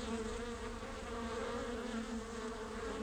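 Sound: honey bees buzzing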